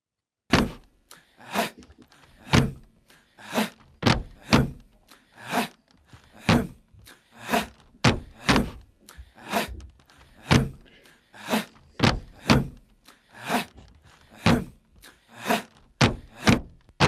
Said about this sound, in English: So here we actually had a big wooden box with people like stomping on it, which we recorded in the studio, and this became a standard technique.